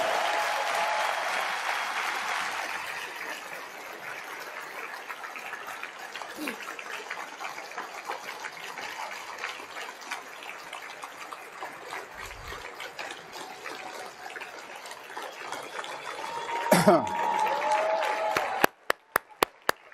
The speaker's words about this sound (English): Well, give her a round of applause anyway. God bless her.